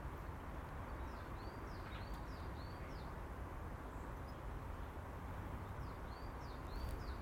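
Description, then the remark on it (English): A blackbird sings faint phrases of short whistled notes in two bursts, set against a steady, broad background rush of wind or outdoor noise. No one speaks. “What do you think, Mrs. Blackbird? Would you like to give your opinion?”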